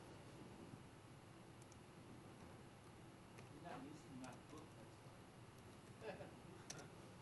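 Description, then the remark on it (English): Keyboard keys click irregularly as someone tests them for a stuck key, a few sharp taps at a time, some in quick pairs, over a steady background hiss. “It's like something's stuck on my keyboard.”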